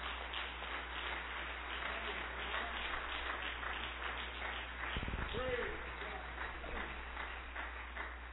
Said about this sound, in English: Give the Lord that hand clap right now, please.